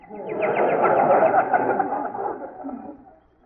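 Birds cooing in a dense, continuous murmur, several voices overlapping, swelling early and then gradually fading away over a few seconds.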